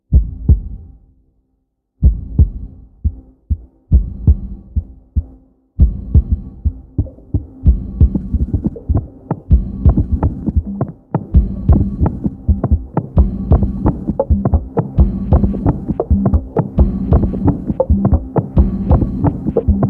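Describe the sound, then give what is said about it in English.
Rhythmic heartbeat thumps of children from Jonasi, a small village in Malawi, arranged into a musical beat, starting sparse with pauses and building into a dense, steady, loud pulse with low throbbing layers and no voices. “Heartbeats of the children of Jonasi, a small village in Malawi, created this beat.”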